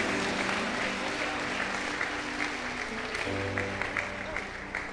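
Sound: audience applause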